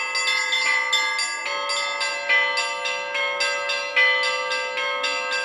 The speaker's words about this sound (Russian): пасхальные перезвоны, а именно так называется традиционный праздник, проводимый в Соликамске, звучал в этот день на все лады.